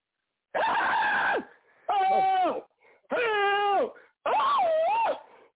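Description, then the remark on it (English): A person yells and screams in four loud, drawn-out bursts, each about a second long with short pauses between. The pitch wavers and strains, with no talking. “I make you yell like that.”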